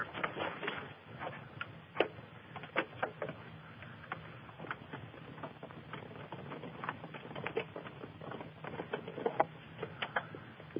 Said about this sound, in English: Okay, got a little clock box going here.